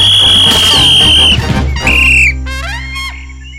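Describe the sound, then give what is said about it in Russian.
A referee's whistle at a football match gives a long, steady, shrill blast, then a second shorter one, stopping a foul in which players grab a footballer by the ears, over a busy, noisy background, followed by squeaky, chirping sounds. “Возмущенный свисток судьи прерывает это безобразие.”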